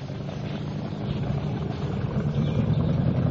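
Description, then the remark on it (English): A 15-foot motorboat engine drones steadily on a lake, a low rumbling hum with a faint wash of water and wind, slightly louder toward the end, with no voices. “Hey, nice boat. Well, it's only a 15-footer, but we love it.”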